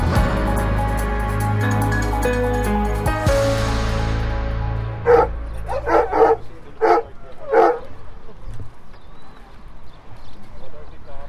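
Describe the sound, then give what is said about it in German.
After a brief burst of music cuts off, a tracking dog in Nordhausen, Thuringia, barks in an excited series of about six sharp, quick barks as it takes the scent of a sought person from a bag and picks up the trail, then rustling background noise. “Der Hund nimmt den Geruch von der gesuchten Person aus der Tüte.”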